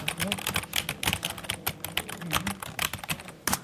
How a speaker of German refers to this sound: Ich höre schon eine Tastatur